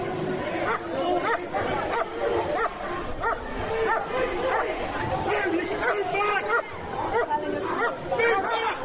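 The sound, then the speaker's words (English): Three police Alsatians with policemen bark in repeated, loud bursts, with occasional yips, at a march against the EDL, over a dense background of crowd chatter and babble. “There's a policeman with a great Alsatian. Three Alsatians coming now.”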